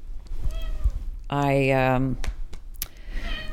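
A cat lets out one long, loud, drawn-out meow lasting almost a second, close by, with softer, fainter mewing sounds and light clicks before and after it.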